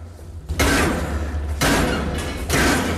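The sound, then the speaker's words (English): A chain and lock on a door are struck three times in a steady rhythm until they break, each loud, harsh blow clanging and rattling before the next hit, with no talking. “Regis hits the chain and lock on the door until it breaks.”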